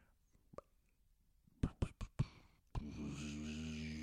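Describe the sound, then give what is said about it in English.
A few sharp knocks and clicks, then a truck engine starts droning abruptly, a steady low hum with layered harmonics that holds at an even level to the end; the truck is very faint and far off, changing gears as it gets closer. “That's like the sound of a truck. Oh, okay. Oh, very faint off in the distance.”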